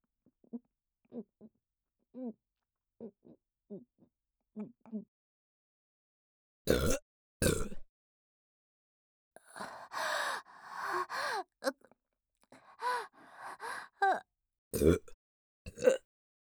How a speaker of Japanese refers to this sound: これでいいんですか、ご主人様。耳元ゲップ、惨めだなって、当たり前じゃないですか。ものすごく惨めですよ。